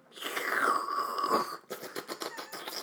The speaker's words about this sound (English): No, I'm on a Starbucks skinny, no added sugar, lactose free. Latte. All the things. Skinny latte. Yeah. Slurp test. Cheers.